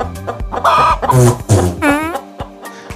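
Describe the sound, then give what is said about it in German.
A chicken clucks and squawks in a rapid, uneven run of loud calls, a couple rising into a drawn-out squawk before quieter clucks trail off. No one speaks. “Du könntest auch sagen: Das interessiert mich so viel, wie wenn in Indien ein Huhn purzt.”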